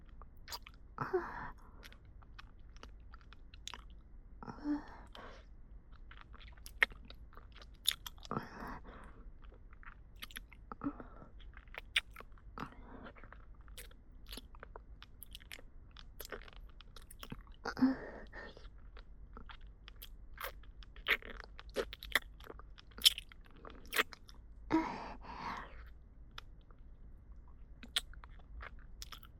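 Hard candy being crunched and chewed, with loud crackling bites every few seconds between softer wet chewing and small clicks. No one speaks.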